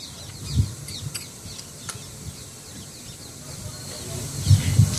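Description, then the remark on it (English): Parrots chirp and squawk faintly at Giriraj Govardhan, scattered irregular calls over a steady outdoor hiss, with occasional low rumbles and muffled murmurs. “Just perceive the atmosphere, the parrots.”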